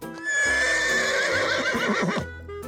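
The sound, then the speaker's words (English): A horse whinnies loudly for about two seconds, a shrill, wavering neigh with a squealing high tone layered over a lower rumble, then it cuts off. “And they also make a sound called a whinny.”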